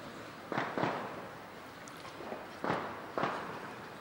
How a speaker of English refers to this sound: It's being celebrated with so many firecrackers.